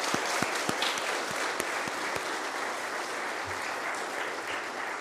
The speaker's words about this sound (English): You've really, really worked hard for tonight. I think, mums and dads, we could give them a wee round of applause of encouragement.